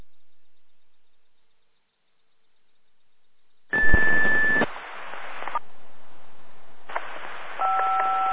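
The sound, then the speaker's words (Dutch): A thin, steady high whine, then bursts of hissing static from a weak radio signal, crackling on and off with faint tones buried inside and no clear voice coming through. “ik kom hier maar SC3 binnen met ruis, dus ik vermoed dat er ergens iets niet aan staat.”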